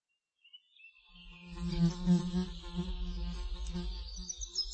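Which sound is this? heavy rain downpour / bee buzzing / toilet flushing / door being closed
bee buzzing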